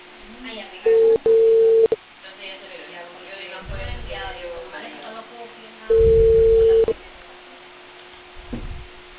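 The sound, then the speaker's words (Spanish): A WhatsApp call's ringing tone sounds twice, each a steady one-second beep pair, about five seconds apart, clear, with faint people talking underneath. “Te podría llamar de WhatsApp, sí.”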